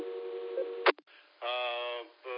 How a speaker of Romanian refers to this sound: Am o problemă la ăsta, repetă dacă ai răspuns, că doar purtătoarea am auzit-o aici, prin sistemul ăsta de rahat al meu.